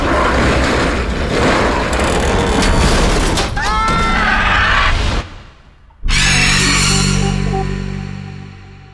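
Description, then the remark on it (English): A door takes loud, heavy blows amid dense crashing and creaking as people push against it, goes briefly quiet, then bursts apart in a final smashing crash that fades out in rumble. “The door's breaking! Push!”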